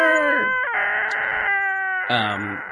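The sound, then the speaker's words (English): A person loudly imitates Godzilla's roar: a drawn-out, shrieking, harmonic bellow that shifts pitch in several stretches over about three seconds, with no other talk. “And so they were like, as I was driving through this place, they were just playing the original score and Godzilla's roar, like for you to enjoy.”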